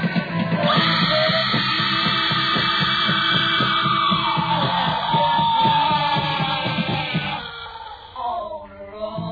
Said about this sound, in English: You can do it, …. Quit screaming.